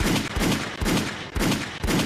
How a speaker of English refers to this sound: Listen, gunshots for y'all. You dig what I'm saying? All y'all.